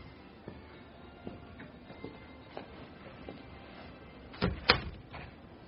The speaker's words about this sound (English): Close the door.